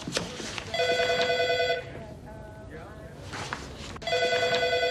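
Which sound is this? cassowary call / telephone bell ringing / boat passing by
telephone bell ringing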